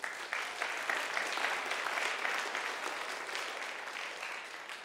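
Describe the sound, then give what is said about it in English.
Sustained applause from an audience, a dense crackle of many hands clapping at a steady, fairly loud level that tapers slightly toward the end, with no voices. “Clap again.”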